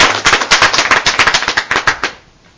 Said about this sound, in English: Yes. That's supposed to be clapping.